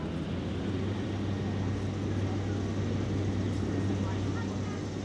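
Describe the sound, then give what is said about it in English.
Busy outdoor ambience in Washington Square Park: a steady wash of indistinct crowd murmur over a constant low rumble of city traffic, with no single sound standing out. “There weren't any of the people you hear, there certainly weren't any cars.”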